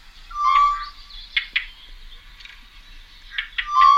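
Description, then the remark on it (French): Two pairs of birds scold with overlapping harsh alarm calls, sharp raspy bursts repeating irregularly, framed by a clearer whistled note near the start and end; no voices. “En fait, il y a un deuxième couple qui est là et qui alarme en même temps. Qui crie, qui n'est pas content.”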